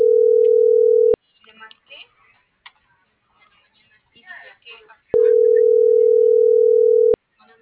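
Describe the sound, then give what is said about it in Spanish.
A phone's ringback tone: a steady, loud electronic purr sounds, falls silent for a few seconds while faint voices murmur in the background, then rings again for about two seconds. “contéstame, contéstame.”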